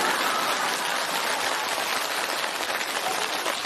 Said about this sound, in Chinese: 来鼓掌！